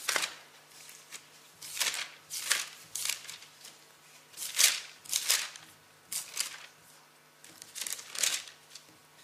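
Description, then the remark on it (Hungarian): Book pages are flipped in quick succession while turning to the Second Letter to Timothy, chapter 3: a dozen or so crisp papery swishes and rustles at an uneven pace, moderately loud, with no one speaking. “fejezet, lapozzunk oda, Timóteusokhoz írott 2. levél, 3. fejezet.”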